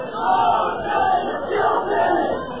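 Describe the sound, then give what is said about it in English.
A rowdy crowd shouts and yells all at once in a continuous, jumbled roar. The noise swells and dips in waves, with no single voice standing out. “Something, we've lost the crowd again.”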